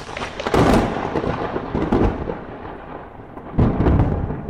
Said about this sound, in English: Insert sound effect. There's a sound effect. There's a lightning bolt.